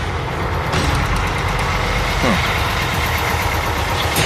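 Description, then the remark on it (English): A truck engine idles at six o'clock in the morning, a steady low rumble with a constant throb that never changes pace or volume over the few seconds, with no talking. “Just going to check out my truck.”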